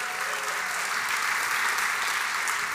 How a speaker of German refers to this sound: So, und diejenigen, die zu Hause sitzen, haben nicht mitgekriegt, dass hier so Schilder aufgestellt wurden, wo immer gezeigt wurde, Applaus, Applaus machen.